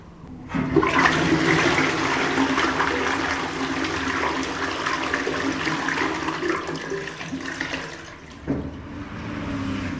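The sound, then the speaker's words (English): A standard-issue stainless steel prison toilet connected to a sink, in London, flushes with a sudden loud rush of water that roars steadily for several seconds, then gurgles and tapers off near the end, with no voices. “There is a standard issue prison toilet, I'm told. It's a stainless steel toilet connected to a sink.”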